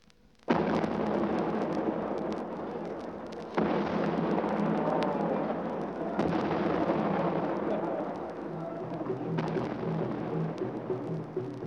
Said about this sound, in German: Unter dem Donner von 101 Salutschüssen geht am 27. April in Lome die Trikolore Frankreichs nieder.